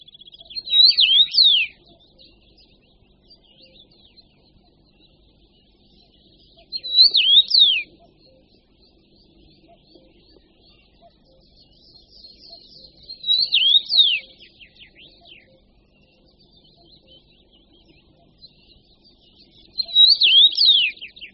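A common rosefinch, a finch, sings its loud, striking but monotonous song: a short, clear whistled phrase four times, each about a second and a half long, repeated at regular intervals of roughly six seconds against a quiet background.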